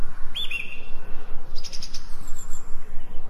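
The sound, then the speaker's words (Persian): Steady, soft background hiss in a green forest with birds calling over it: a short whistled call early on, then a quick run of five high, thin chirps, followed by quiet ambience. “حواست فقط به این جنگل زیبا باشه و ازش لذت ببر.”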